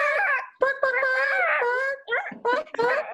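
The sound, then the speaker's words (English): A high-pitched voice does a chicken impression, starting with long wavering squawks and ending in a few short, choppy clucking bursts. It is fairly loud, with no other sounds around it. “All right, we're going to do our chicken impression, okay?”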